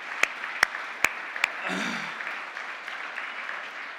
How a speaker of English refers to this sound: We could clap for that. Nothing wrong with that.